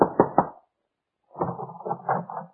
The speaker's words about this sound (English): Your hand trembles as you knock on the door.